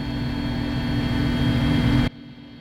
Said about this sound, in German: Zum Glück ist für Ohrenschützer gesorgt. 20 Minuten lang dröhnt der Helikopter über die Hügel. Erst über Weidelandschaft, dann über dichten Wald, Urwald.